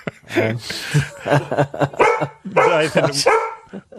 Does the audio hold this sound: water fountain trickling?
no